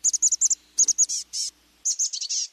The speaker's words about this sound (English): Now listen to the chestnut-backed call. It's higher pitched, faster, and has a buzzy quality. Once again, the black-capped chickadee. Now the chestnut-backed chickadee.